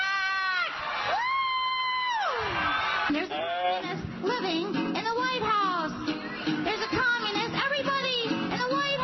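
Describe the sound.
A loud crowd cheers and shouts, with high, wavering whoops and yells rising and falling over a constant roar of voices.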